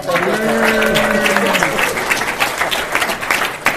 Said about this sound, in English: And if you want to give me a round of applause.